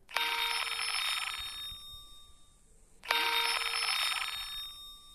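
A Skype incoming-call ringtone on an Android phone: two bright, chiming, bell-like bursts about three seconds apart, each ringing for a moment before fading, with no one talking.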